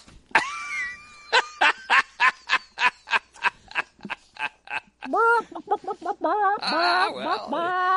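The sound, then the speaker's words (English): A person imitates cackling chickens with a quick series of sharp, clucking vocal bursts that build into louder, wavering squawks, mostly in a high, nasal pitch. “I like to hear the chickens cackle.”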